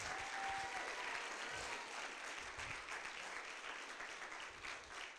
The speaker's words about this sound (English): Come on and get the Lord a hand clap of praise.